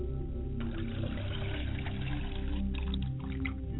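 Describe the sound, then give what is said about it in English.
Water is poured from a glass as a libation in a steady, splashy stream for a few seconds, set against a low, sustained humming drone that continues throughout. “And I pour libations to the ground and say, Ashe, I pour water for my mother's side of the family and set a glass before her side of the family.”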